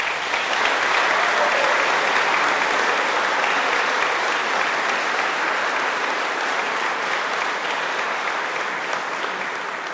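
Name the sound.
audience applause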